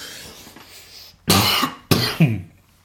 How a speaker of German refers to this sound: Wir brauchen noch so eine Räuspertaste hier, dass man das mal wegschalten kann.